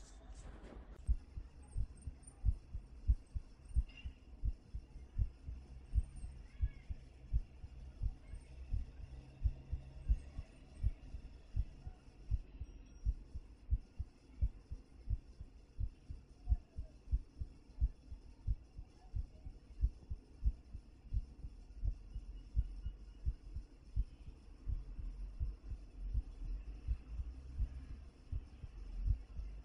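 A dog's heartbeat heard through a stethoscope: fast, steady, muffled low thumps repeating throughout, with a soft background hum and no voices.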